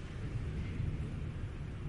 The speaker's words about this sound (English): The third thing, which ought to get every parent into the most sober mode, just like that thunder. I've never had a moment like that when I'm preaching.